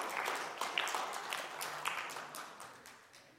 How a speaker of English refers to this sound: Let's give them a little round of applause.